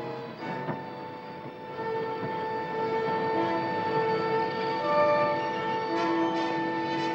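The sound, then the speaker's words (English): A train rolls in and slows to a stop at a depot in a barren valley, its brakes letting out a steady, shifting metallic squeal over a continuous rumble, loud throughout, with no voices. “As the train stops, a conductor steps off”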